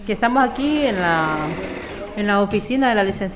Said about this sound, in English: She sits at the sewing machine, cranking out face masks for other migrants.